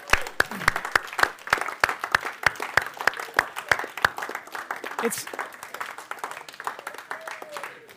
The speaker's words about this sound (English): Can we just, as they come, can we just thank them by clapping for being here this morning?